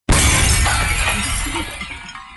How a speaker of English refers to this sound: He raised his stick to defend himself and accidentally smashed the shop window behind him.